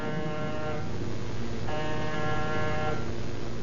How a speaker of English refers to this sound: Name's on the door. And push the buzzer.